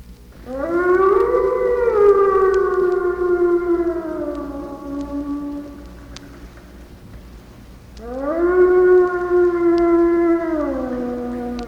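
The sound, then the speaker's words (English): Wolves in the woods howl in two long, drawn-out calls that rise, hold and slowly slide downward, the second starting after a short pause. Loud, with no one talking. “To Western man, that cry filling the woods from every side is at once mournful and menacing, yet strangely alluring.”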